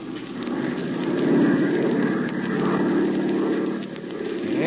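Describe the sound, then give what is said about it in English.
A propeller airplane engine drones steadily in flight at height while searching for a train on the tracks, about 100 miles back from the border of Chile. It is a continuous low, buzzing hum with a gently rising and falling throb, fairly loud and with no voices over it. “Well, that should be easy enough to spot even from this height.”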